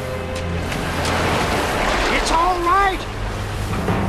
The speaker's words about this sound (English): Water flows over her feet.